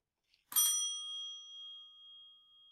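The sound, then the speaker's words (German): A single bright bell strike, struck by the speaker as a cue to pause the video, rings out clearly, its clean metallic tone lingering and slowly fading over a couple of seconds, with no voices present. “Halten Sie das Video jetzt bitte, wenn ich die Glocke schlage, an.”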